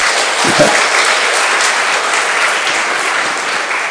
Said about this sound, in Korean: 자, 그래서 거룩함으로 앞으로 예배에 참여할 분들 손 들어보세요. 네, 손 내리고 박수 한번 치고.